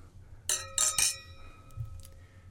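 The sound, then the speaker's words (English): Wine glasses clink together three times in quick succession in a toast during a wine tasting, bright, each strike leaving a clear ringing tone that slowly fades out in otherwise quiet surroundings. “So we should cheers here.”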